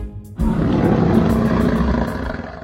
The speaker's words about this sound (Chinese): 琪琪听到了一阵吼声， 是阿丑哥哥， 后面跟着的还有狮子妈妈。